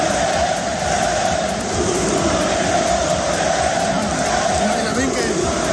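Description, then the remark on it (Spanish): Thousands of football fans in the stands of the RCD Stadium chant together during a match against Egypt, singing "Musulmán el que no vote" in the first minutes, a dense, steady roar of massed voices that stays loud and continuous throughout. “El encuentro se ha visto ensombrecido en los primeros minutos por este cántico de miles de aficionados.”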